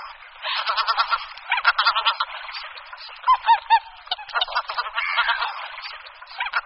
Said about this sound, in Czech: Husa běločilá má hlas výrazně odlišný od hlasu husy polní. V tom hlasovém projevu je slyšitelné takové pisklavé nebo chraptivé volání znějící jako klik, klik, nebo jako kaulik, kaulik.